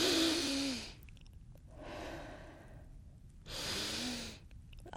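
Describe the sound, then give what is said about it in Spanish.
A woman with flu breathes deeply in and out at a doctor's office as the doctor examines her: three long airy pulses, the first and last stronger with a slight voiced rasp, the middle one softer. “A ver, respire profundamente.”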